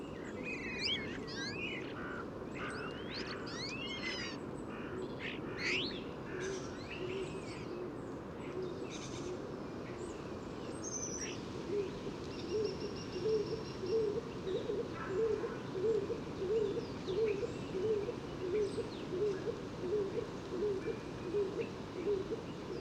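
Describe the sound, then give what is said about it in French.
A stock dove, a small woodland pigeon that nests in woodpecker holes, gives a steady series of soft, low coos, repeated rhythmically in the second half. It is recorded with a parabolic microphone, with a small gathering of five or six birds present. Higher songbird chirps and a constant woodland hiss fill the background. “pas facile d'avoir le chant du pigeon colombin. Petit pigeon des bois qui niche dans les trous de pique, souvent en couple.”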